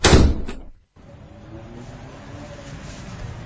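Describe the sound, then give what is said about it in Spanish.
A door slams shut with one loud thud as a man walks out, followed by a brief hush and then a low, steady background rumble. “Con un portazo, Claudio abandonó a Ozzy y el mate recién empezado.”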